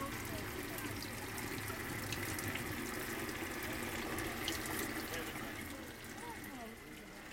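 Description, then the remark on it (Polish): Water runs steadily from a tap, being run off while waiting for the water to be chlorinated and sampled to see if it is drinkable, in a continuous rushing hiss that barely changes for the whole stretch, with faint indistinct voices in the background. “No i oczywiście trzeba czekać. Spuszczać tylko.”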